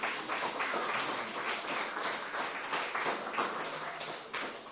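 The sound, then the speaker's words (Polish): A large group claps together in steady, dense applause for God during a sermon, holding at an even level for several seconds, with no voices over it. “Oddajmy Bogu oklaski.”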